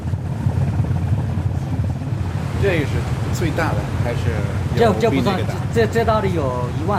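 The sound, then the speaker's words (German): A cargo ship's engine drones low and steady on the Yangtze river in China as it passes the city of Zhejiang, a constant throbbing rumble, while people talk over it for the second half. “Ein Frachtschiff nach dem nächsten fährt Tag und Nacht auf dem Yangtze an der Stadt Zhejiang vorbei.”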